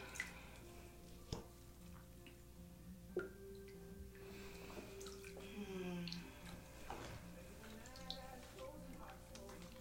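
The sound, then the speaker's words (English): Steady hot water from a shower runs with a soft, continuous hiss, broken by a few sharp splashy drips and drops, while a faint voice murmurs wordlessly underneath. “Hot water running down my back.”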